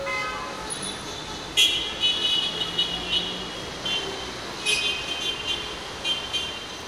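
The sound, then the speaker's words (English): Busy city street noise in Cairo with a steady traffic rumble, punctuated by several car horn toots at irregular intervals, some short and some held a little longer. “Both with the sniffles, as you'll be able to hear, and with the constant honking concert of Cairo in the background.”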